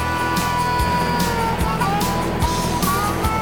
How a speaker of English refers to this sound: That engine packs some wallop.